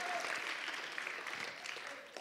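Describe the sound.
An audience at a lecture claps steadily for the professor in a second spontaneous round of applause, a dense wash at moderate volume that holds for a couple of seconds, with faint murmuring voices mixed in.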